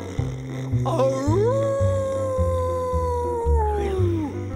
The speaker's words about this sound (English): Oh, howled the dog.